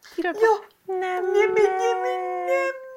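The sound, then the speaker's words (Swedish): A puppy named Sigge whimpers in a couple of short, high yelps, then breaks into a long, steady, wavering howl that carries on for about two seconds, fairly loud. “Vi får nu i bild se lilla hundvalpen som ju ligger ute på vår Facebook lilla också.”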